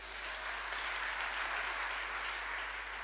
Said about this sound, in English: Give him a hand clap.